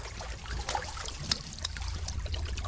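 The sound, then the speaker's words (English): Ancient water seeps from the rock of an underground well, trickling and dribbling steadily, with a few sharper drips popping out now and then above a low, hollow rumble. Quiet, with no voices. “The water seeps from the rocks themselves.”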